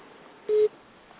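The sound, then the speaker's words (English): A single short, steady electronic beep at a mid pitch, lasting about a fifth of a second, sounds over a faint hiss of a phone line with no one talking. “Yeah, yes, no, there was just a beep on the line there.”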